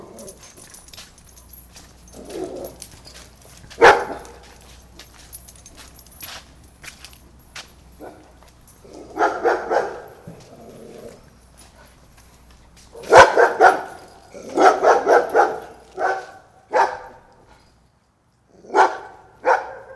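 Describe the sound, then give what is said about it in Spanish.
Dogs bark in scattered bursts, a lone bark first, then clusters of rapid barking with quiet gaps between, and no one speaking. “Pero al menos debías de oír si ladran los perros.”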